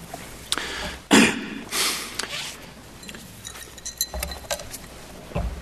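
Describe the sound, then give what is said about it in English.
A drinking glass clinks and knocks a few times as Verrilli sips water during his argument on the constitutionality of Obamacare, with bright ringing taps scattered among soft shuffling and thumps of handling; no one speaks. “My throat kind of seized up a bit, so I took a sip of water, and it went down the wrong way, and I just literally couldn't get the words out for a little bit”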